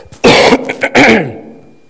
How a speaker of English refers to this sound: I got to clear my throat, but I'm not sick.